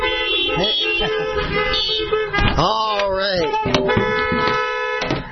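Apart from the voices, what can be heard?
car horns honking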